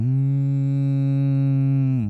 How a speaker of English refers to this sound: Some even say that as the cattle were lowing,